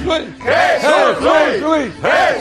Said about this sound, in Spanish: Gracias por estos aplausos y estos vítores que tanto me estimulan.